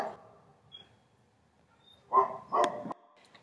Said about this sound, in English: My insane little puppy that I just got over the weekend started just causing a ruckus in our backyard.